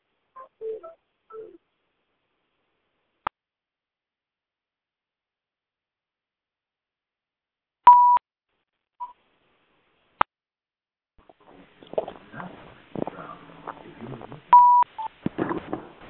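A few short telephone keypad tones and sharp clicks as a phone line is unmuted for questions, over long stretches of silence, followed by faint, muffled voices with one more beep near the end.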